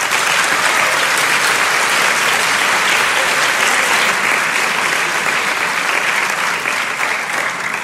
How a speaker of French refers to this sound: si ce n'est que pour les nuits blanches qu'ils ont passées, je vous demande s'il vous plaît de les applaudir chaleureusement.